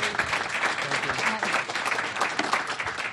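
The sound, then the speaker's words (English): Steady applause from an audience at a Commonwealth Club of California meeting fills the whole stretch, a dense wash of many hands clapping with a few faint voices mixed in underneath. “We can clap now.”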